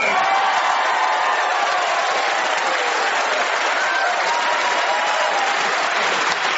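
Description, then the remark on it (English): A crowd applauds a performer's talent with steady, dense clapping that stays loud and even throughout, with a few faint cheers mixed into the sustained ovation. “All the variations you put in, the round of applause shows how much they appreciated your talent.”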